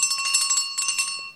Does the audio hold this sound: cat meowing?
no